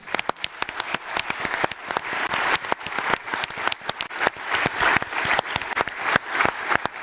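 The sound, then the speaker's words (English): A loud, sustained round of applause from an audience for the event's video team, dense overlapping hand claps with sharp individual smacks standing out, steady throughout with no speech over it. “Then another big round of applause to our video team who can't hear you because this wall is soundproof, so be very loud for them.”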